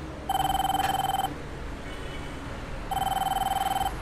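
A mobile phone rings while its owner walks through the streets: two bursts of rapid, pulsing electronic trills separated by a short pause, clear over a low, steady background rumble.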